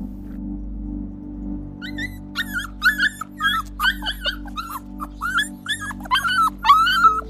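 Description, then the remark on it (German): Several neglected dogs whimper and give short, high yips in a rapid irregular series over a steady low hum in the background; no one speaks. “Die Hunde zeigen Anzeichen von Vernachlässigung.”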